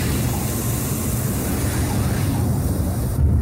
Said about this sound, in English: Parachute opens. And the jetpack's 8 engines light up.